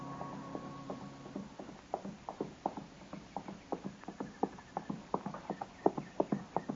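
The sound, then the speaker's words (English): Rhythmic hoofbeats of a horse clip-clopping along a trail, steady and evenly paced, growing a little louder as they draw closer, with a low hum in the background at first. “And just then I heard a horse coming along the trail, and I stepped back and waited.”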